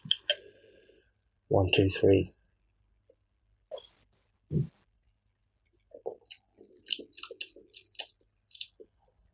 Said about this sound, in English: Shall we have the sip? This is the fateful sip. Okay, here we go.